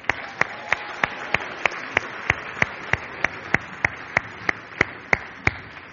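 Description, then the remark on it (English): An audience applauds Christians of ten years or more who have stood up, in a continuous wash of clapping punctuated by sharp, evenly spaced claps, about three per second, for the full six seconds. No one speaks. “Man, these guys need a round of applause.”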